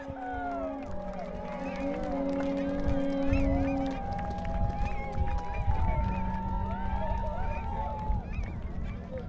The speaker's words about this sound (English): A highlight of the day was when a flock of 20 endangered Nene geese flew over the assembled demonstrators.